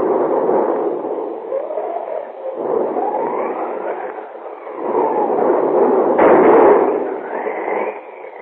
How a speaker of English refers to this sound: Outside, a thunderstorm is raging.